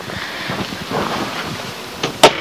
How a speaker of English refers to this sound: And that was an interesting noise, wasn't it? That was the cupboard above the bedside cabinet rattling when I closed the door.